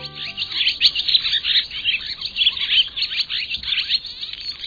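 A barn swallow chatters in a rapid, continuous stream of twittering chirps and warbles, fairly loud, with no pauses and no voices over the bird.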